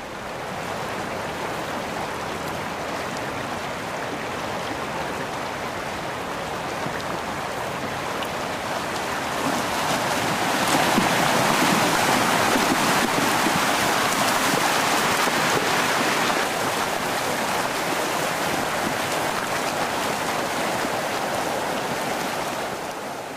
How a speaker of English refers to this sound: We're gonna have to be ready to move here as the Yosemite Creek and all of its might is coming toward us.